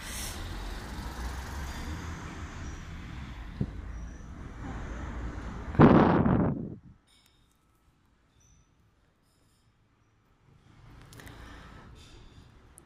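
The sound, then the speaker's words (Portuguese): Several cars pass a traffic light after it turns green, with a steady roadway rumble, ending in a loud, short hissing burst like a brake release. Then a stretch of near silence before faint traffic noise returns. “A luz verde acendeu. Temos vários carros a passar agora ao semáforo.”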